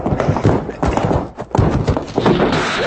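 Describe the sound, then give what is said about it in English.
A horse named Cherokee shuffles and moves, hooves clomping and thudding heavily on the ground as it shifts its weight and drops down flat on command, with a steady rumble of movement throughout. “Down, Cherokee, flatten.”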